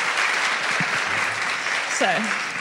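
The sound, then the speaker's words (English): A crowd claps together in a steady, dense burst of applause that holds at an even level throughout, with a brief murmur of voices rising underneath near the end. “Clap for everyone at once.”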